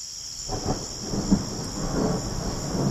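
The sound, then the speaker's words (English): Thunder of an approaching storm rolls in at night under clouds covering the stars, a low, broad rumble that swells and lingers for several seconds, with a steady hiss of insects or light rain behind it and no voices. “But sometimes, calm comes before a storm.”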